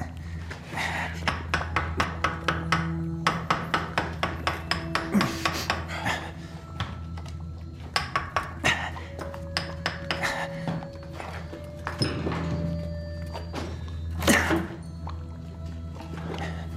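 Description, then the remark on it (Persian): A rapid series of sharp metallic taps, like a hammer striking repeatedly, with a steady hum underneath and a few scattered clanks and scrapes afterward. “نه، چکشه بده به”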